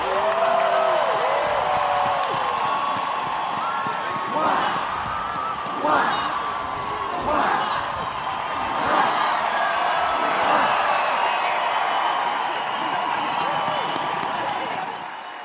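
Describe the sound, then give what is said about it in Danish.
A large crowd cheers in a loud, unbroken roar as King Frederik X of Denmark comes out onto the balcony, with rhythmic surges rising every second and a half or so through the middle, as if the crowd is chanting in unison. “Och nu kommer kung Fredrik den tionde ut på balkongen och möts av folkets jubel.”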